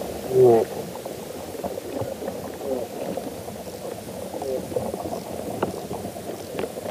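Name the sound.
soil creatures feeding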